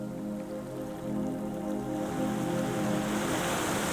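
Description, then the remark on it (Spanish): Waves breaking on a lonely beach, a steady hiss of surf that swells louder toward the end, with a low sustained tone humming underneath and no voices. “Durante lo que pareció una eternidad, Alicia nadó con él, guiándolo entre las corrientes, hasta que finalmente llegaron a una playa solitaria como esta.”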